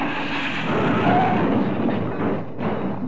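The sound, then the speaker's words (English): A car with no brakes smashes into rocks, a loud, dense rumbling crash that roars on for about three seconds with grinding, rattling noise and a brief dip near the end. “My Jane, we're going to hit those rocks!”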